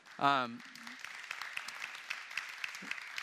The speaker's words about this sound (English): Now, I want to ask the band to come up. First of all, I want you guys, can you guys give a round of applause to the band?